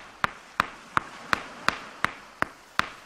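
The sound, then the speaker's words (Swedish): Eight sharp, ringing taps of a stone striking rock, evenly spaced in a steady rhythm, fairly crisp, as a rock carver knocks a figure into a flat rock surface with a stone; faint background hiss and no voices. “Men ristaren greppar en av sina stenar och börjar knacka in figuren i hällen.”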